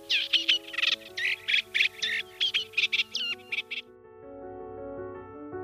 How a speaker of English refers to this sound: Reed warblers, meanwhile, usually hang out in dense reeds, with their loud song erupting from the vegetation. Listen out for this.